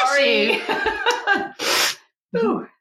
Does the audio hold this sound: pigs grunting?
no